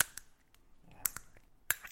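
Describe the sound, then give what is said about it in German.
A small screw-cap sample bottle with no cork being twisted open, giving several sharp, crisp clicks spread irregularly over a couple of seconds against a quiet background. “Das sind halt die kleinen Fläschchen, ne? Da ist kein Korken drauf.”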